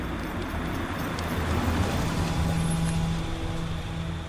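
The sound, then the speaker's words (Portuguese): Two cars rumble up and come to a halt at a door on a deserted street after 10 o'clock on a Wednesday night, engines running steadily with a low droning hum and a faint brake squeal, no voices. “Passa das 10 horas quando 2 carros param à porta do Rádio Clube Português.”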